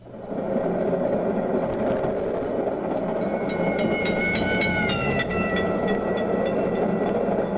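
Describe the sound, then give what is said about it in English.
A steady roar and rattle of a moving train, heard from aboard it, with a clanging crossing bell rising out of the noise midway, its ringing tone sliding lower as the train passes the bell and moves away from it. “When you are moving away from the bell, in effect, running away from the sound waves, fewer vibrations reach you during any interval, and the pitch that you hear is lower than it would be if you were not moving.”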